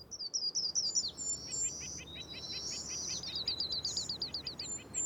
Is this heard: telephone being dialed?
no